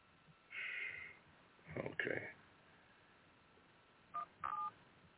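Phone keypad dialing tones: a longer electronic beep, a breathy noisy burst, then two short, clipped beeps in quick succession, all fairly clear with no talking.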